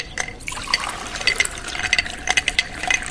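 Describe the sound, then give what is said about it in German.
Homemade lemonade pours from a jug into a glass with a continuous splashing trickle, bright clinks and bubbling, lasting a few seconds with no talking. “Nein, ich bin schon den ganzen Tag hier und verkaufe selbstgemachte Limonade aus diesen Kannen hier. Die sehen lecker aus. Trinkt mal ein Glas, ich lade euch ein.”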